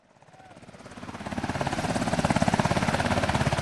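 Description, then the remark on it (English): U.S. Navy Seahawk and Sea Stallion military helicopters, ferrying pallets of bottled water and MREs into a golf course in Port-au-Prince, thunder past with a rapid, rhythmic thudding of rotor blades and a broad engine roar, swelling from quiet to loud within a second or so and then holding steady. “A constant stream of U.S. Navy Seahawk helicopters and hulking Sea Stallion choppers ferry pallets of bottled water and MREs, meals ready to eat, into a golf course in Port-au-Prince.”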